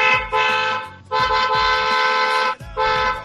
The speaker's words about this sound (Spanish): Toca el claxon que sea.